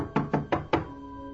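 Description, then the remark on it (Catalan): Four evenly spaced, firm knocks on a door, each with a short woody ring that fades before the next; no voices. “Estic dormint i truquen a la porta.”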